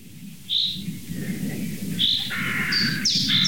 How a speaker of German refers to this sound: Bis die Krähen kamen.